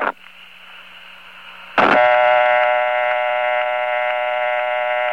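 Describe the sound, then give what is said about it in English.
An old step-by-step or crossbar telephone dial tone: a steady, buzzy harmonic drone that starts fairly quiet, then jumps after a couple of seconds to a louder, richer buzz that holds evenly. “The old step-by-step and crossbar dial tone sounded something like this.”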